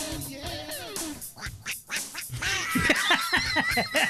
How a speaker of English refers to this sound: And that's the end of the song. The extra, listen, the quacks at the end is what made that song, Jeremy.